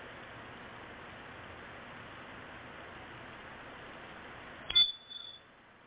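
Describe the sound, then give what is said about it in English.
A single short, shrill chirp from a smoke alarm with a low battery, sounding once right as a steady background hiss cuts out, followed by a brief fainter echo of the tone. “Sounds like somebody got a smoke alarm that needs a new battery.”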